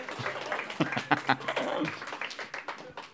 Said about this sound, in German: Okay, Applaus.